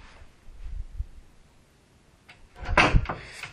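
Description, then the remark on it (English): The right-hand door off a house corridor, leading to the living room, is handled and swung open with a soft creak and a solid clunk, after a few quiet shuffling footsteps. “I'm going to go to the right-hand door now.”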